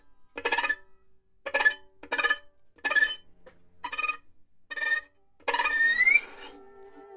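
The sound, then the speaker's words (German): Musicians' bowed violin strokes mimic cricket song, with a finger laid very lightly on a string and the bow let fall lightly on it: about eight short, scratchy, high-pitched bursts in a steady rhythm, ending with a longer gliding squeal. No voices are heard. “Der Gesang der Grillen, diese. Ich mache das manchmal mit Pfeifen nach, aber die Musiker können das auch mit der Geige nachmachen.”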